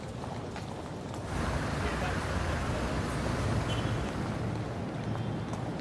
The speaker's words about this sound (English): This is London Waterloo, the busiest railway station in Britain.